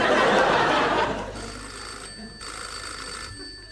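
An old-style telephone bell rings loudly at first, then its clatter fades into a quieter tail before stopping, with no voices.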